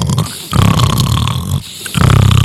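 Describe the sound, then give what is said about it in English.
A voice imitates a baby snoring, giving three rough, rumbling snore breaths in a steady rhythm with brief pauses between them, loud. “I've never heard a snoring baby.”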